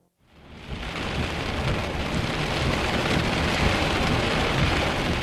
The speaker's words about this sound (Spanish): Probablemente fue después de medianoche cuando comenzó la tormenta. La violenta tormenta que puso fin a todas las tormentas.